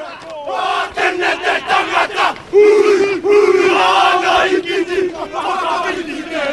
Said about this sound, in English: and then a group of Maori men performed a haka.